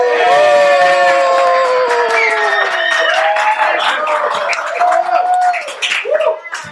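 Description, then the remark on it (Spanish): A crowd claps and cheers loudly and steadily, dense hand-claps mixed with raised voices and whoops, tapering off slightly toward the end. “Si no aplauden.”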